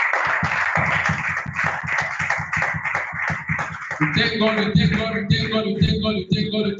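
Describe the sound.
An audience claps loudly for the Holy Ghost at the end of a sermon in a steady, rhythmic beat, and partway through, raised voices and cheering join in over the continuing applause.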